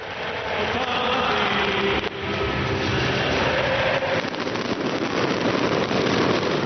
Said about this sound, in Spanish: Es el sonido atronador de la pólvora, los fuegos artificiales y la música del himno de la Champions del Madrid. Así sonaban los fuegos artificiales en la capital de España en torno a las 11 de la noche, cuando terminaban los festejos